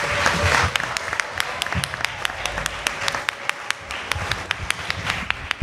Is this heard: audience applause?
yes